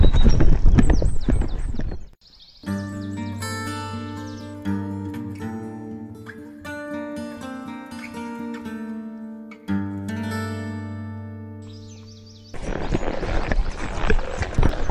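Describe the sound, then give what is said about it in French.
Rapid galloping horse hoofbeats pound loudly at the start, give way to a long stretch of sustained, droning music, then the driving gallop returns near the end. “Et allez, maintenant il faut que je fonce comme un taré pour rattraper le cheval de l'autre débile.”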